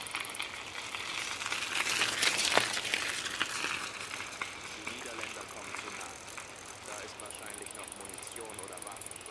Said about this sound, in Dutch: Terwijl Kees snel doorfietst, ziet hij dat achter hem het zweefvliegtuig door Duitse soldaten in brand wordt gestoken.